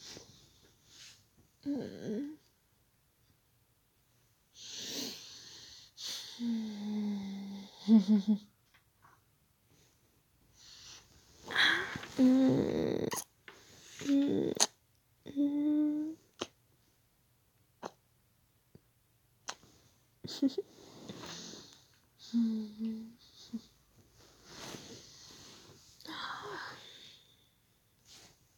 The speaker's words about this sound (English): Hey, don't cough on me. Hey, what if I get sick? I know I literally just kissed you, but, like, coughing on me, that's the reason why I'm gonna get sick.